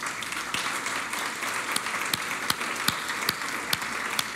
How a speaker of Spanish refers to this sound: Usted estaba aplaudiendo antes de ver el video, ¿verdad? Es fe, eso.